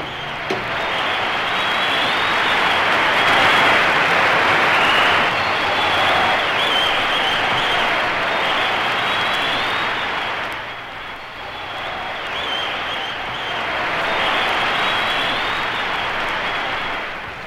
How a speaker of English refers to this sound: The crowd of scientists and technicians are going wild. What a space ovation!